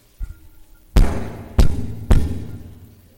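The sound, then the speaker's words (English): Three heavy, booming knocks on a door, each ringing briefly before the next, spaced a little unevenly after a faint soft thud at the start. No voices. “here I stand knocking at the door”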